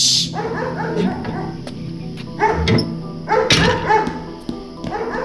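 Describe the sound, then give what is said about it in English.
A dog barks and yips in a few short, harmonic bursts spread across several seconds, moderately loud, with whiny tones between the barks and no one talking. “They left their new doggy home alone.”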